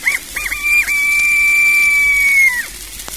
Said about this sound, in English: Their hunger appeased, all are well satisfied, and none more so than a little bantam rooster, who emphasizes his approval of the repast by a shrill